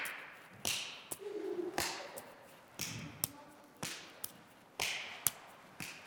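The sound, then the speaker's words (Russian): In a ball exercise, a ball is tossed up and caught. Sharp claps made behind the back alternate with soft thuds of the ball landing in hands, repeating in an uneven rhythm about every half second to a second, with no one speaking. “Подкинуть мяч вверх и хлопнуть рукой за спиной.”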